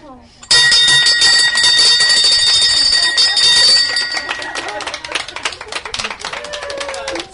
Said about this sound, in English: It is the small steps forward that ring the bell against misfortune. As you pass each hurdle in your journey to wellness, ring this bell to celebrate your accomplishment. And so I will.